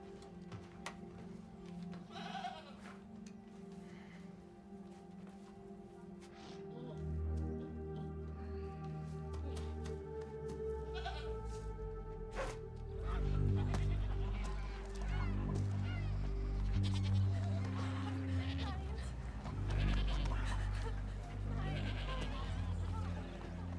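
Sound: sheep bleating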